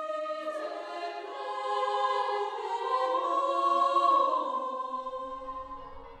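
Church bells ring together on Thursday, 2 January 1823, in a dense, sustained wash of overlapping metallic tones that swell gradually louder and hum on steadily, waking the nuns and neighbors, with no voices.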